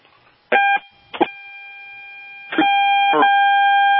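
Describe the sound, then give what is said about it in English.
Electronic tones on a phone line: a brief chiming burst, a click, then a steady buzzy tone that holds to the end, all fairly loud with no one talking. “Okay, we keep hearing tones.”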